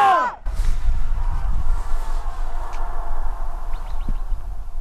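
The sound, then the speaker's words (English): A single loud, high shout of "Yampa" cuts off quickly and then rings back through Yampa Canyon, where the Yampa River meets the Green River, as a long, hazy trail of fading echoes, with faint repeats drifting in over several seconds. “So you can count, try to count how many echoes you can hear, okay?”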